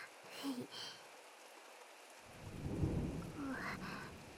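Steady rain hisses throughout while a deep, rolling thunder rumble swells up midway and lingers to the end; brief faint vocal sounds surface now and then.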